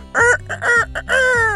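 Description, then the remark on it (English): A person imitates a rooster crowing, a loud, strained call broken into several rising and stretched bursts, ending in a long drawn-out final note. “I can do my rooster.”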